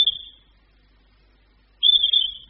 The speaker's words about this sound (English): And what on earth are those? Those are whistles.